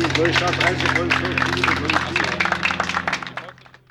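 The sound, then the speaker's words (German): An audience applauds outdoors at a monument at the end of a two-hour guided tour by the Arbeitskreis Regionalgeschichte (regional history working group), a dense patter of many hands clapping with voices murmuring underneath and a steady low hum, the clapping thinning out and fading away at the end. “Ja, und kurz nach dem Applaus konnte man 2 ältere Männer lautstark über die Verschandelung des Denkmals schimpfen hören, die im Hintergrund des Denkmals standen.”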